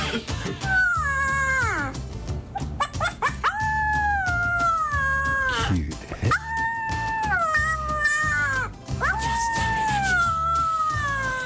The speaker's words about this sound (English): a puppy learning how to howl